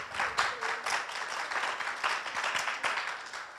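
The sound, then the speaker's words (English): A crowd claps steadily, a dense, crackling wash of many hands that holds fairly even for several seconds, with no one speaking over it. “I can't quite see who is clapping over here, but thank you.”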